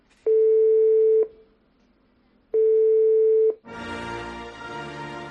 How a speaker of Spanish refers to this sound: Este es el tono de espera, debe ser, ¿no? Pues a Inglaterra estamos llamando.